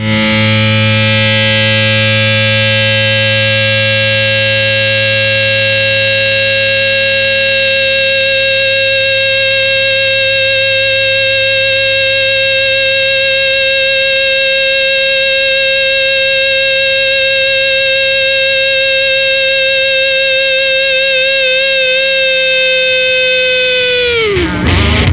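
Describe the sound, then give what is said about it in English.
A loud, buzzy emergency broadcast test tone, presented as a mock "emergency distortion broadcast" test, thick with distorted harmonics, holds perfectly steady for about twenty-four seconds, then wavers and bends downward as it cuts off. “This is a test of the emergency distortion broadcast.”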